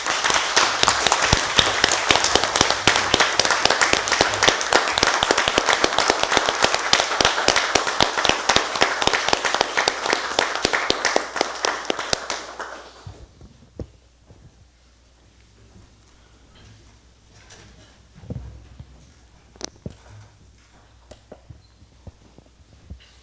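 A crowd applauds steadily for about twelve seconds, a dense wash of clapping that fades out, followed by quieter room noise and a few scattered sounds.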